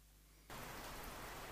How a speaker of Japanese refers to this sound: 雨がポツリポツリと降ってきた。